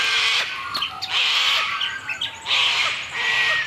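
White-winged choughs squawk in repeated harsh, raspy bursts, loud, with broad noisy calls recurring every second or so and no voices.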